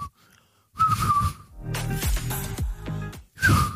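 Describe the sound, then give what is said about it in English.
Breathy, failed whistling attempts by a person: a thin wavering tone around a hiss of blown air, in a few short bursts with audible nasal breath and snorting between them, fairly loud. “There's a lot of nose on that whistle, isn't there? It's too much air coming out, yeah.”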